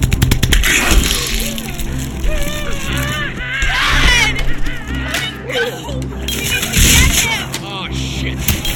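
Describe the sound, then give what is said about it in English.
Sharp gunshots crack through a chaotic scene, a shot blasting a door lock, while a crowd yells and screams over a constant low rumble. “I had to shoot the lock.”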